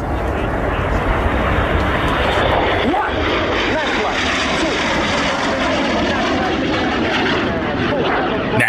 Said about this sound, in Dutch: Enig idee waar je naar geluisterd hebt? Nou ja, vliegtuigen. Ja, zeker. Het zijn de Frecce Tricolori.